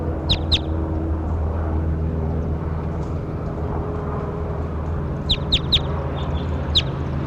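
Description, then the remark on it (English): A bird, identified as bird 27, gives short, sharp, high calls in small bursts: a pair near the start, then a quick cluster of three or four later, over a steady low mechanical rumble. “So this is really bird 27 here.”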